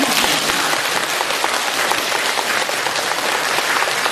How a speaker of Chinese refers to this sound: 台长特别开心，你看看看，人不多，但是我听这个掌声就是几千人的掌声。